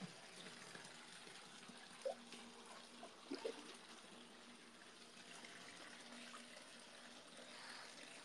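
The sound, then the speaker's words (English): Bathwater, turned pink by a bath bomb, is gently moved in a tub: a soft, steady watery hiss fills the background, broken by a few small splashes around the middle. Quiet, no talking. “The bath bomb that I used, it's like pink. The water's pink.”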